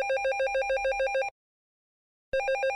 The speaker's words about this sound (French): Le soir, 20h, le téléphone qui sonne.